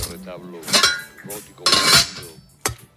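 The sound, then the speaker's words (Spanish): Kitchen clatter in a home kitchen in the morning as scrambled eggs are hurriedly made for breakfast: metallic clinks and scrapes of utensils against pans come in three bright bursts, with quieter rattling in between. “Hoy esto que escuchas puede ser perfectamente el sonido de tu casa, de tu cocina por la mañana.”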